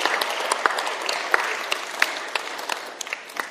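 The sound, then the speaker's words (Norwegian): A church audience claps steadily for the worship team as they go up, a dense patter of many hands with a few sharper individual claps standing out, holding at a moderate level and easing slightly toward the end. “Kan vi gi et lite applaus for lovsangsteam mens de går opp?”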